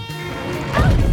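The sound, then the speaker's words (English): A bed slams heavily into a wall, and a loud crash with crackling breakage as the plaster cracks swells in the second half over a steady, humming rumble. “As the bed's driven into the wall yet again, plaster starts to crack.”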